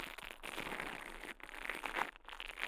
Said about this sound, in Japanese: ブラシ型の耳かきで、耳をマッサージしていきます。お耳の中で毛がパチパチと当たってくすぐったいですよね。